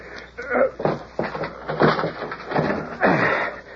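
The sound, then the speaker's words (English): A locked wooden door with an old lock rattles and thuds as it is shoved repeatedly against its lock, with a series of dull knocks and creaks over several seconds. “It's locked. Figured it would be. Just give it a shove. That old lock won't hold nothing.”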